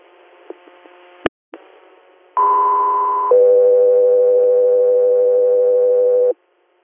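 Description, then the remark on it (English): Radio dispatch alert tones for the Scout 3 Air unit: after some faint static and a sharp click, a loud steady high tone sounds for about a second, then drops to a lower sustained tone for three seconds before cutting off. “Scout 3 Air, stand by for tones.”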